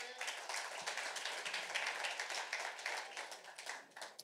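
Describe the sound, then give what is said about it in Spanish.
An audience claps steadily for several seconds to welcome pastor Félix as he is invited up, a dense crackle of many hands at an even, fairly soft level with no voices over it. “Queremos un fuerte aplauso para él.”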